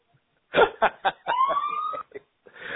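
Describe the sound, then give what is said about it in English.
A police escort siren wails in the background on the street, its tone rising and holding steady for under a second, mixed in with short bursts of voices and other noise. “And for the transcript, you can put in brackets, there is a siren in the background.”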